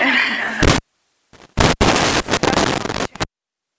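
A loud, sharp sneeze bursts out amid a few harsh, noisy blasts, with brief gaps of silence between the explosive sounds.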